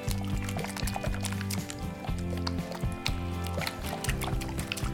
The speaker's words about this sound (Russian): Шипит? Шипит и скворчит. Набирается соков.